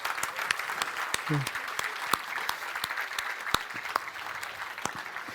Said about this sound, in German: Wer möchte gerne? Eine Meldung. Gerne nach vorne kommen. Ein Applaus.